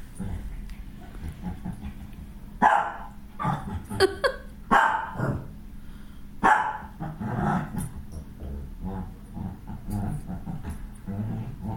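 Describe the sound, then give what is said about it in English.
A puppy yips and barks in short, playful bursts while playing under a couch, mixed with little growls and whimpers, over a low background rumble. “Silly puppy.”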